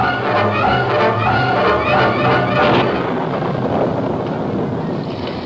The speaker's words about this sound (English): Here come rain. Last light and open clouds wide. Otto, I heard something more than thunder.